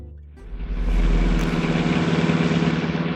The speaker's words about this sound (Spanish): En este preciso momento, el auto conducido por Calimán se detiene lento frente a la verja de una suntuosa villa.